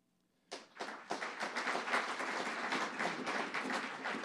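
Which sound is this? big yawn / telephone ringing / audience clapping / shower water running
audience clapping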